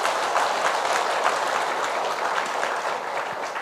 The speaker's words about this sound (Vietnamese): Nếu các anh chị đồng tình với điều này thì cho một tràng vỗ tay thật lớn.